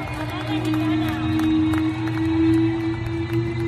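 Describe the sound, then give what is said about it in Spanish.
A large stadium crowd roars and applauds at a tribute to footballer Jenny Hermoso organized by Pachuca, a dense, steady wash of noise with scattered sharper claps, held at an even level from start to finish. “Los aplausos y por fin la sonrisa en la cara de Jenny Hermoso.”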